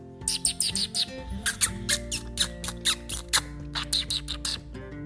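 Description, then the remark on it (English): A voice imitates squirrel squeaks to call squirrels in a tree: a rapid run of short, high, chirpy squeaks in quick clusters with brief pauses, over a low steady tonal hum. “maybe try squeaking like a squirrel.”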